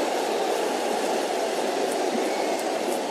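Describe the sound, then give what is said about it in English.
A steady, dense roar of a large football crowd cheering in the stadium at the Franchi during Fiorentina versus Torino, a continuous wash of noise with no clear individual voices and no one speaking over it. “Those are the cheers there.”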